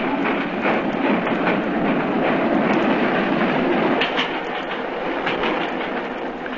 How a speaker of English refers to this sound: Stop the train, I say!